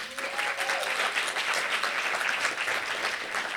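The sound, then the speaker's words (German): An audience of about 70 to 80 people claps steadily at a live show in the Forum der Volkshochschule at Neumarkt in Cologne, a dense crackle of many hands at an even, sustained loudness with no pauses throughout. A faint whistle-like tone briefly rises above it near the start. “Dafür erstmal danke und fetten Applaus.”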